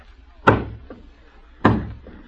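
Two heavy thuds on a door, each followed by a softer second knock, with a pause between the pairs; fairly loud, no voices.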